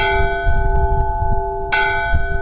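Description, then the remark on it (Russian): A bright church bell rings with long sustained shimmering overtones, struck again partway through so the tone blooms freshly, over a low rumbling background. “Есть колокол яркий, с таким светлым, летящим, радостным тембром.”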